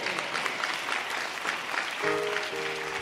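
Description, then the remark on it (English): An audience at International Gospel Center gives the Lord a hand clap of praise, dense, steady clapping that holds for about three seconds, and a sustained musical chord comes in under the clapping toward the end. “Come on, give the Lord a hand clap of praise this evening, this morning, afternoon, should I say.”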